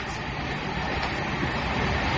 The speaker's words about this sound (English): The train is going up the hill.